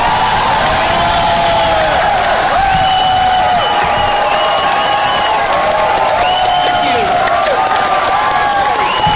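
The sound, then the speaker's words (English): A large crowd of students at the University of Michigan cheers loudly and steadily at night for Ron Paul, a dense roar threaded with rising whoops and high shouts that carry on without pause for the whole stretch. “Huge crowd.”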